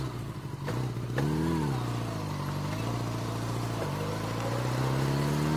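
A motorcycle engine runs loudly, its revs swelling and dipping several times over a steady, throaty drone, with a couple of sharp clicks early on.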